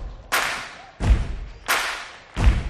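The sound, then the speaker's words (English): An audience welcoming a performer to the stage claps together in a steady rhythm, four loud, broad bursts about two-thirds of a second apart, each ringing out and fading into the next. No one speaks. “I see y'all clapping, come on.”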